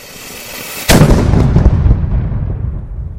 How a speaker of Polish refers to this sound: za chwilę odda ostatni strzał armatni w karierze żołnierza zawodowego